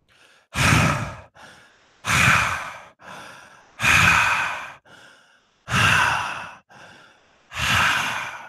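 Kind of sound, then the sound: vocal imitation, voice imitating heavy panting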